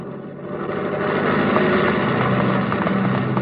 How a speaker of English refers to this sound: All right, boys. Crank up the ship and get ready to take off. Thank you. Wait until the plane starts moving